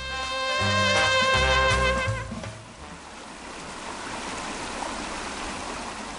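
A loud, steady harmonic tone sounds for the first couple of seconds, then fades into the continuous rushing wash of the flowing Kolubara river in Valjevo, with no voices.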